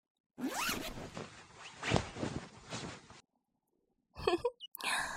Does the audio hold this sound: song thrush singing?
no